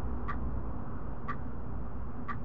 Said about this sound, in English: The ticking of an antique clock on the wall seemed to echo the passing seconds, each tick amplifying the tension that hung in the air.